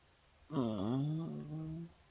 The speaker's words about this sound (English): You're breathing really hard, babe. You okay?